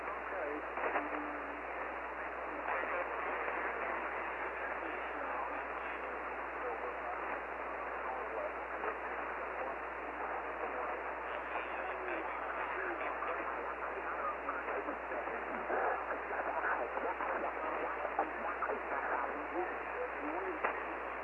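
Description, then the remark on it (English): Loud, steady radio static hisses continuously with a narrow, tinny tone and no voices, the crackling noise holding at an even level for the whole stretch between transmissions. “And my static is very, very loud.”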